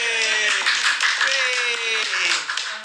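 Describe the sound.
A steady round of applause from a group, dense and loud for the full three seconds, with voices calling and cheering mixed into the clapping.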